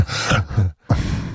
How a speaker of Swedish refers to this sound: Och som också efter att man sagt att andas ut med näsan så här. Så, varför låter det så här konstigt? Typ varför visslar och piper i podden? Ja, det är för att vår andning har blivit sämre.